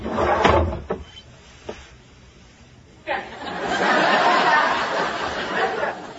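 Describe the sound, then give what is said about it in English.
A desk drawer slides and bumps with a few sharp knocks, followed by a longer scraping, rummaging rustle as it is pulled open and pushed shut, fairly loud. “How about that drawer?”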